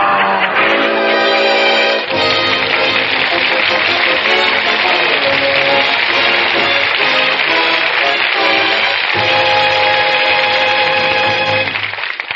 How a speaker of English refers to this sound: Oh, no, that isn't the alarm, is it?